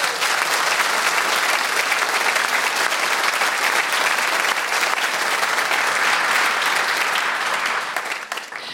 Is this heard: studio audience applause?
yes